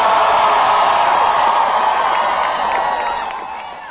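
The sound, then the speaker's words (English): A large crowd of about 11,000 students at a political rally cheers and applauds in a loud, continuous roar, with scattered whoops rising above the steady clapping before it gradually begins to fade at the end. “Well, that sounds very much like a political rally, does it not?”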